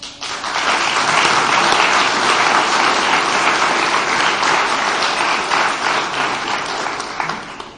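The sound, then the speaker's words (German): A crowd applauds a team, clapping steadily and loudly for several seconds, a dense wash of many hands that swells early, holds, then gradually thins toward the end. “Das war augenscheinlich nur möglich, weil meiner Meinung nach ich ein geniales Team hatte, die einen echten Applaus verdient haben.”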